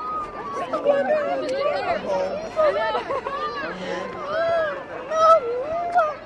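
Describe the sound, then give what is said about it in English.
Excited crowd chatter of waiting families as buses pull up after a five-hour delay at a homecoming: many overlapping voices talking and calling out at once, with raised, animated tones rising and falling in a dense, steady hubbub. “And finally, after a five-hour delay, the buses start pulling up. It's chaos. Everyone storms the buses.”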